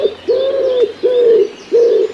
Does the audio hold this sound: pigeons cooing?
yes